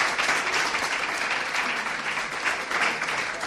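Steady audience applause fills the space, many hands clapping in a dense, sustained wash with no pauses, moderately loud and close, without anyone speaking over it.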